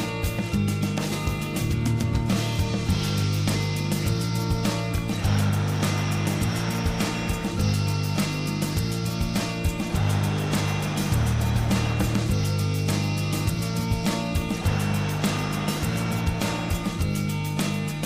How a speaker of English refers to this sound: Now once you've got the pattern, you can allow the breathing to be continuous like this, if you prefer.